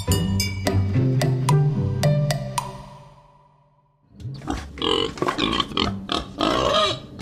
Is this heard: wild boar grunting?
yes